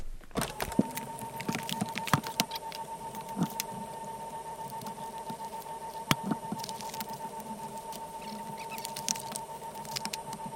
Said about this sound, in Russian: Приступаем к распаковке самой мощной из когда-либо созданных консолей. Посмотрим, что же внутри этого черного ящика.